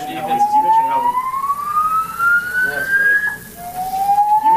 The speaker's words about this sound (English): So during the post-game press conference, head coach Matt LaFleur was talking about it, and an alarm sounded.